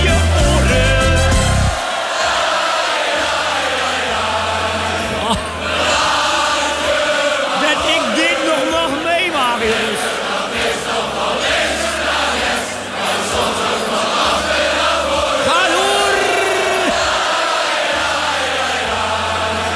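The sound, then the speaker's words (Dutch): A large crowd cheers and yells loudly and continuously for about twenty seconds, with whoops and shouts rising out of a dense roar, over a steady low rhythmic thump in the background. “U was een fantastisch publiek.”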